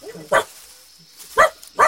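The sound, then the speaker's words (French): Three sharp barks from Milou (Snowy), Tintin's dog, at an elephant in India, one early and two near the end in quick succession, with quiet gaps between them. “Tais-toi, Milou, il ne faut pas l'effrayer.”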